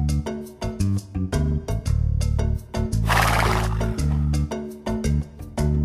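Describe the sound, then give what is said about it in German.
A zebra foal's call rings out loudly: a series of sharp, whinnying yelps with a raspy, breathy burst in the middle, set against a steady rhythmic musical backing. “I am Zebra's baby.”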